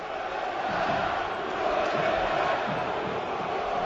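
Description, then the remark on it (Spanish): A large crowd of Valencia football fans at Mestalla stadium, standing at their seats with handkerchiefs in hand after a draw with Las Palmas, chants in unison telling the coach to go, a dense roar of many voices, loud and sustained with a rhythmic, protesting cadence throughout. “los aficionados que quedan de pie en sus asientos, con pañuelo en las manos y al grito de Nuno, vete ya”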